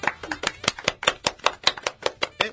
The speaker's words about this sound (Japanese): はい、拍手。